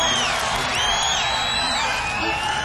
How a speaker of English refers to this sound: It's absolutely fantastic, the crowd response now at Kezar Stadium.